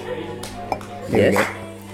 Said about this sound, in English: Could you pour the water any closer to the microphone? More closer? No, no, yes, I'm being sarcastic.